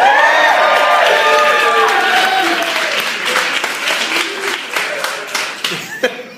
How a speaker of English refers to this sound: It really sounded like someone was slowly murdered to me during that applause.